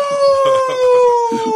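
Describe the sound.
A person howls like a wolf, one long, steady, slowly falling cry held for over a second, with other voices murmuring faintly underneath.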